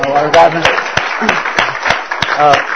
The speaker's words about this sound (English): We can clap.